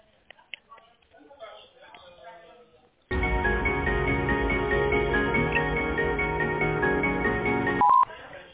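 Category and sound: signal or alarm, telephone dialing tones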